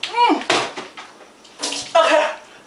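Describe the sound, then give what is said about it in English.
Water splashes and sprays in two loud bursts as a wet woman shakes herself off, with brief vocal exclamations mixed in at the start and near the end. “Now she's shaking herself.”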